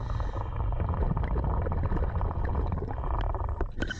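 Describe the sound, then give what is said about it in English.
A scuba diver unclipping a submersible from a platform about 30 feet underwater, recorded on the diver's GoPro: a steady, muffled low rumble with scattered small clicks and a couple of sharper knocks near the end, no voices. “And yes, you're hearing the actual sound of our actual diver doing the actual unclipping.”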